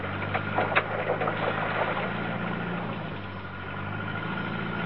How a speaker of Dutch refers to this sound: Vergeet jij de motor niet aan te zetten? Nee hoor, maak je maar geen zorgen.